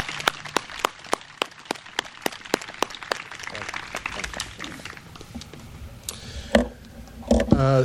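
An audience applauds the parade Grand Marshal: steady, evenly spaced handclaps ring out for about four seconds and gradually fade, followed by murmuring voices and a few louder thumps near the end.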